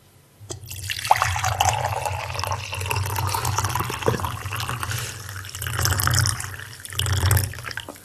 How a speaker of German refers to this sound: Der Herr Stett gießt Tee nach. Achtung, es blubbert.